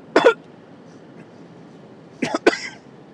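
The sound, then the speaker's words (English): A single sharp cough, a pause of about two seconds, then two more coughs in quick succession, all against a quiet background with no talking. “Excuse me, had to use the cough button there.”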